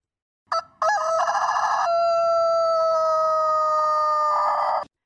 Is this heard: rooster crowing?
yes